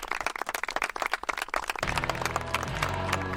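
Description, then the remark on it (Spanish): A burst of audience applause for the guests, dense rapid clapping for about two seconds, then a music jingle fades in and takes over while the clapping thins out beneath it. “Yo creo que para todos vosotros os vamos a dar un súper aplauso para que...”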